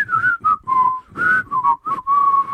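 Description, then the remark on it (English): Two men whistle the Smurfs theme song, a bouncy, cheerful tune in short phrases, each note clear, with brief gaps between phrases and no talking. “and the guys were whistling the Smurfs theme song.”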